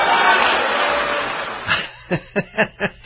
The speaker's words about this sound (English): Not a lot of applause for Will Hurd, but to actually go to a crowd like that, 1,200 people, knowing how they are likely to respond, well, it says something about a level of courage.